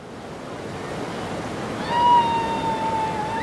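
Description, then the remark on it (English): Steady rushing of river water fills the scene as children go rafting on a river in Colorado, and about halfway through a high, drawn-out call rings out faintly over the current, like a shout from someone on the water. “Rafting in Colorado is a top summer attraction, and like most tourists, these children are just along for the ride and have no idea Colorado is grappling with a decades-old law pitting landowners against recreational users.”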